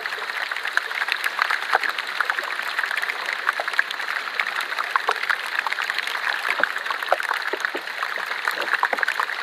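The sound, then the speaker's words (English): Ancient ice melting in water with a constant dense fizz of tiny pops and crackles, steady throughout, like a carbonated drink, with no voices, as gas trapped in the ice bubbles out. “So then when we pop that piece of ice in water and it starts melting, and the gas just starts bubbling out of that and generates a little bit of fizz in the ice.”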